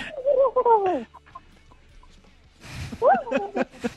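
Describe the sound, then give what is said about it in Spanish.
Two bursts of voices imitating a turkey gobble in a turkey imitation challenge, warbling and bubbly, separated by a short quiet gap; fairly loud, with a bit of background noise. “Es como si los dos pavos estuvieran reproduciendo, ¿no?”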